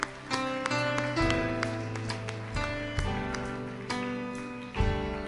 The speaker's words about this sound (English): Give me a hand clap.